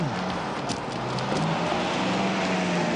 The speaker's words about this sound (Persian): ماشین درویش خانه، حتما اومدن دنبال من.